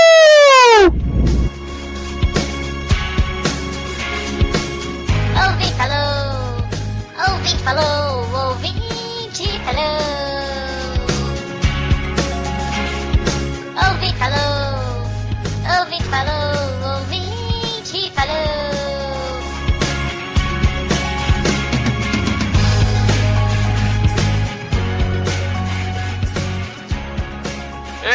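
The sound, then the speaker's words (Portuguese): A short musical jingle plays loud and up close for nearly half a minute, with a pulsing, steady bass pattern beneath wobbly sliding tones and busy bright layers, and no one speaking. “E finalmente vocês vão poder tocar a sua vinhetinha.”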